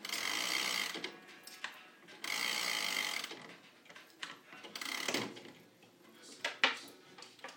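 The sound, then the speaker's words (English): Mechanical whirring and clicking from a pendulum clock's gears as the hands are turned forward to about 6:30, coming in uneven bursts with brief pauses and a few sharper clicks toward the end. “I'm going to move it forward. It's probably about 6:30. It tends to lose a little bit.”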